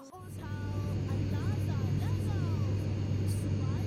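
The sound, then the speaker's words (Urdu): An airplane engine drones steadily and loudly throughout as the plane flies on toward its next destination, a constant low rumble with a broad hiss on top, while faint wavering tones drift over it. “جہاز اپنی اگلی ڈیسٹینیشن کی طرف بڑھ گیا ہے.”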